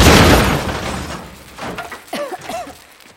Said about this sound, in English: In her room, Mavis sits with her head buried in her arms. A speeding clump of black smoke crashes through the window.